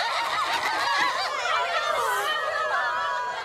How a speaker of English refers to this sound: The chickens flap furiously. Some faint.